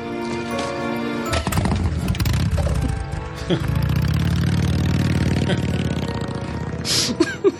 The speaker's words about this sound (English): I'm sorry, that just scared the living daylights out of me. I was not expecting the motorcycle noise. In my headphones, it's really loud.